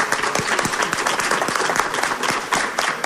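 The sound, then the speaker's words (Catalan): A crowd applauds steadily, with dense, overlapping hand claps forming a loud, sustained patter of bright, crackling bursts that never pauses. “Un aplaudiment també.”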